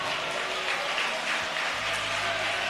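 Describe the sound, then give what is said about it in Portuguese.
An audience claps for Jesus after a sermon, a dense, continuous wash of hand claps, loud and sustained for the whole stretch with no clear pauses and no voices on top. “Mas quem gostou, bate mais palmas para Jesus.”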